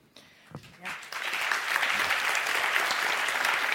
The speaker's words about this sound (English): Yeah. I mean, I'm glad that got some applause because this is actually a really, really big deal.